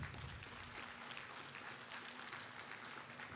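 An audience applauds in a steady, dense wash of clapping that holds an even level for a few seconds, with no voices breaking through.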